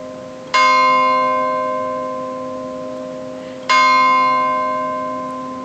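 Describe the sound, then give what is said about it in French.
A village church bell rings the Angelus at nightfall, tolling twice about three seconds apart. Each loud, resonant stroke rings on and fades slowly into a lingering hum, with no voices. “Au coin de la haie, comme par là-bas, la cloche du bourg sonnait l'Angélus.”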